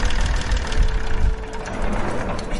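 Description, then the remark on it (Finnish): A Perkins diesel tractor engine idles in Kristiinankaupunki, a steady low rumble with a rough, knocking texture that holds evenly throughout, with no voices over it. “Niin tässä on Perkitti moottori.”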